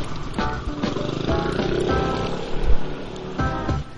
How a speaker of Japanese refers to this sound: バイク、ギー来るかな。